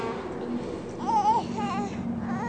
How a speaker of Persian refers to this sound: بچه هست دیگه، زورش که نمیرسه حرفم نمیتونه بزنه، با گریه کارش را میندازه.